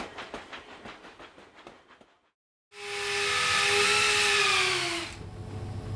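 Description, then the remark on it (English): A steam train chugs along in rapid, rhythmic bursts, then pauses briefly before a loud, sustained hiss of steam with whistle-like tones rings out, fading into a lower rumble. “In the 1800s, it provided fuel for machinery in factories and for steam trains that transported the goods.”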